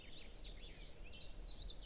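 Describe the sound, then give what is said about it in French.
A treecreeper gives a rapid series of very high, thin, wispy call notes that slide and flutter, fairly faint and continuous, with only a low background hum beneath and no talking. “Des grimperons.”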